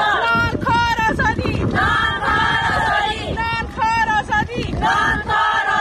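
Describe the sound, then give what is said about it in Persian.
Afghan women of the Independent Coalition of Afghan Women's Protest Movements chant together in loud, rhythmic bursts at a Friday protest march in Islamabad, Pakistan, demanding the release of fellow activists held by the Taliban, their high voices rising and falling over a rough, wind-buffeted background of crowd noise. “راهپیمایی اعتراضی اعضای ائتلاف مستقل جنبش‌های اعتراضی زنان افغانستان در اسلام آباد پایتخت پاکستان برای آزادی هم‌قطارانشان.”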